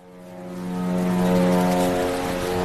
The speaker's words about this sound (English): Kfar Aza is very close to Gaza. You can hear the Israeli army's drones.